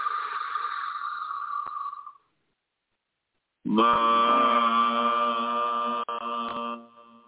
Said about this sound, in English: The second noise is va, vam. So once again, we breathe in. Va. Take a deep breath in and vam.